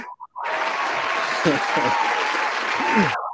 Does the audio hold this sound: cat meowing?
no